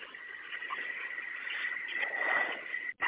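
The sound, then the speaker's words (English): A bus engine, shut off after a check engine warning light and buzzer, rumbles and whines over a narrow, phone-like line, swelling louder near the end as it is restarted, then briefly cutting out; no one speaks. “If you can restart the bus, please, and let us know what lights or if there's an alarm on also still, please.”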